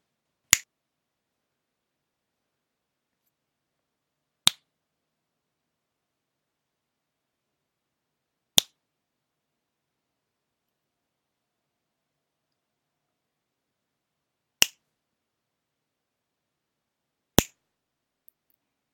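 Five crisp finger snaps ring out alone in silence, spaced several seconds apart at an uneven pace, each one a sharp, bright click that dies away instantly.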